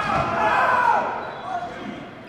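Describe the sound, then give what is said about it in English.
A rubber dodgeball thuds against the metal of the press box during a dodgeball match between Michigan State and Western Kentucky, amid a steady wash of crowd noise, with a voice talking over it the whole time. “That one came hot into the press box here. You'll hear the thud of rubber on metal.”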